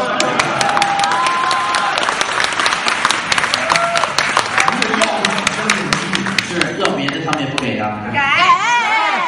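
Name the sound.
audience applause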